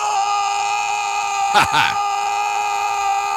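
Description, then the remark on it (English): A sound effect of Nicolas Cage screaming "fuck": a long, sustained scream at steady pitch, loud, about five seconds, with a brief harsh rasp breaking through partway before the yell carries on to the end. “wheel out my brand new sound effect here on the show”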